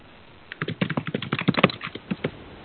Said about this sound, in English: I think that's you typing, perhaps.